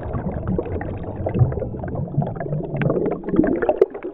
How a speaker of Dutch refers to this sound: We gaan naar zee. Of beter, in zee. Want we nemen een verfrissende duik onder water.